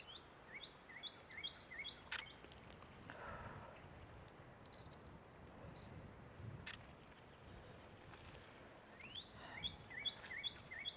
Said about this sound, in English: Can you hear the pretty birds?